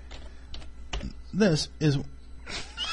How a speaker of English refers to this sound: This, what I'm typing now, sorry folks.